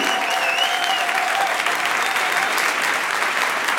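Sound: audience applause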